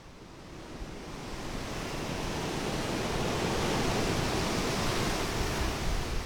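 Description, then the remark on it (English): Indian Ocean waves break on the beach at Chennai (formerly Madras), India, in a continuous, roaring wash of surf that swells gradually louder and stays steady, with no voices. “Today, it's a pleasant enough scene with couples sitting by the roaring Indian Ocean”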